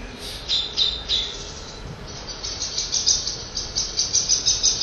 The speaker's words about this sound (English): This is sound will often make it as if sparrow hawks may appear. So they'll stop singing and they'll suddenly start making these high chattering, like a bunch blackbird. Of terrified little girls or something.